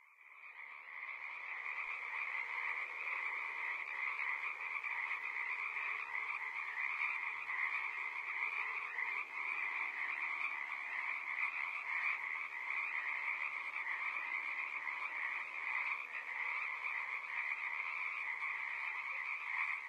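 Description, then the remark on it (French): A dense chorus of frogs croaking continuously, a steady layered wall of calls that stays loud and even for the whole stretch, with no voices. “Bon, eh bien, puisque c'est terminé, je vous laisse en compagnie des grenouilles.”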